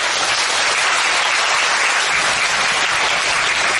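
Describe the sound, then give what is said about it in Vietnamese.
A large crowd claps steadily, a dense, loud wash of applause that holds at the same level for the whole few seconds with no voices standing out; people gathered at a Buddhist temple applauding to congratulate fellow attendees. “Chúng ta cho một tràng pháo tay để mà chúc mừng cho những bạn đó.”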